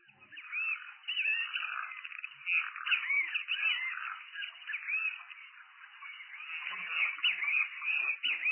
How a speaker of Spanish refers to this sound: El venteveo tenemos ahí, que es bueno, otra de las aves comunes, ¿no?, de nuestro país, que bueno, su nombre es onomatopésico, ¿no?, porque venteveo, bicho feo, o como le dicen en Mato Grosso, Cristo fue, también por el nombre.